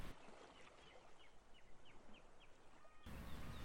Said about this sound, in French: On entend le gazouillement des vignes, le roucoulement des pigeons et le pépiment des colombes.